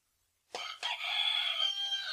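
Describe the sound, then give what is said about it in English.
A rooster crows once, loud, with a sharp two-part start that stretches into a long, strained, harmonic cry running to the end. “A rooster grenade.”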